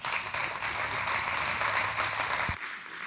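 A church audience breaks into steady hand clapping to welcome guests after a prayer: a dense wash of many overlapping claps that holds at an even level for about two and a half seconds, then thins out and fades.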